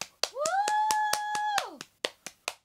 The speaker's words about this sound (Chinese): 如果听紧 podcast 嘅朋友咧，听到啪啪声啊，究竟咩啪啪声咧？系我自己喺度拍我自己嘅大髀嘅。